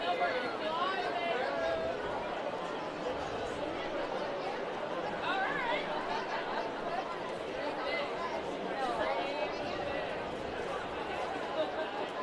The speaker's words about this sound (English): Nice crowd on this Friday night here at Cheney Stadium.